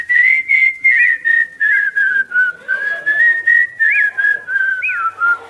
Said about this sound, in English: We go in whistling that, right?